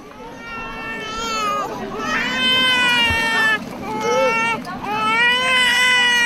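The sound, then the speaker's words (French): A baby who is too hot cries loudly and continuously in long, strained wails with brief catches of breath between them, insistent throughout. “Et là, je sais, le bébé, il a chaud.”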